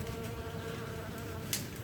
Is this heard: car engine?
no